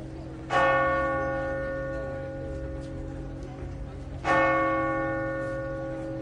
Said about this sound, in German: Und mit dem Glockengeläut aus Lourdes sind wir auf den Besuch von der Melser Grotte eingestimmt worden.